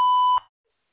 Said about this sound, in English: To connect and talk, just say your name and what you're calling about after the beep.